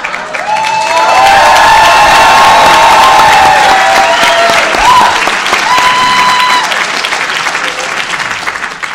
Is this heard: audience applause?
yes